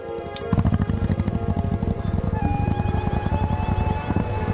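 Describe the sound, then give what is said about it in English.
A motorbike engine kicks in after a brief quiet moment and runs loud and steady, with a rapid throbbing putter and a thin whine that rises slightly in pitch midway, as the bike is ridden outside towards the sea. “Hearing the motorbike, Misty sits up, reaches out for his glasses, and puts them on.”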